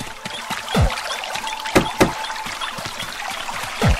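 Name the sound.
water trickling and splashing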